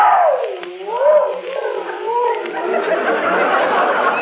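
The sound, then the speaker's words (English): A dog howls in long, wavering cries that slide up and down in pitch, loud and unbroken across the whole stretch, turning rougher and more ragged toward the end. “Lonesome? Not if he keeps howling like that, he won't.”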